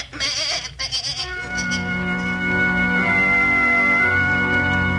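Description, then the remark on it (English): A goat, the scapegoat Azazel of a Day of Atonement ritual, lets out a long, loud, drawn-out bleat following a brief burst of scuffling noise at the start, with no one speaking. “The Azazel was a goat, and the ritual was common among the people of Israel, the Babylonians, and the Hittites.”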